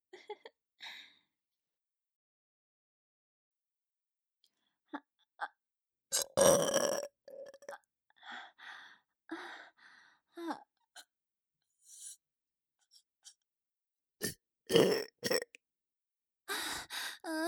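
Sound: burping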